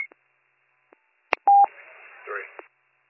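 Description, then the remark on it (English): A few soft clicks as a return phone call is dialed, then a single short, bright telephone keypad tone, followed by muffled, crackly phone-line sound with a faint distorted voice before it cuts off. “I'll return phone call.”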